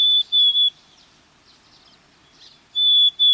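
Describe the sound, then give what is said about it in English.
A black-capped chickadee sings its plaintive whistled song: a clear, pure two-note phrase, a pause, then the phrase again, fairly loud against a quiet background. “Black-capped chickadees sing a plaintive, whistled song”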